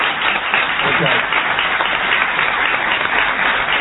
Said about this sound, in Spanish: Bueno, aquí tenemos, si no más lejos, a Esther Goris. Le vamos a aplaudirla.